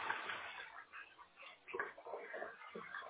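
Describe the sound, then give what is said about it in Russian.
Hot water runs steadily from a tap at home, a continuous rushing hiss lasting the whole few seconds at a fairly low, even level, with faint muffled voices in the background. “Проверьте качество горячей воды.”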